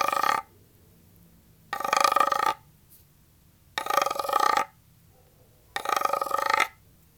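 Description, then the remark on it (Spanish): A wooden frog percussion instrument croaks four times at an even, unhurried pace, each rasping, ratchety scrape lasting under a second with a buzzy midrange tone and silence between. “Acá tengo una rana, escuchen.”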